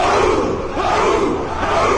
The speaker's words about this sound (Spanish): Este año, en las pantallas de todo el mundo, se escuchó un viejo grito de guerra. ¡Esto es Esparta!